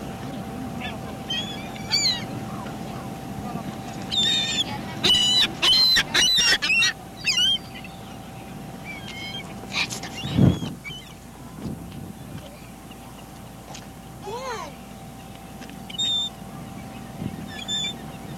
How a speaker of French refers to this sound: Mouette à Cape Cod le 21 juillet 1983.